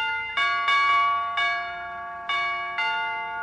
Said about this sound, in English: I don't suppose you've got those door chimes fixed yet, McGee, have you? Stop accentuating the negative, Molly. I just rewired the whole dingus. And will you hear it? Go outside and buzz me, baby. I'll believe it when I hear it. Here goes.